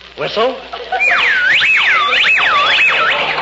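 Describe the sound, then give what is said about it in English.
A short voiced sound opens, then a high, clear whistle swoops up and down in repeated looping arcs for a couple of seconds, loud and steady. “You know, if you want me, all you gotta do is whistle.”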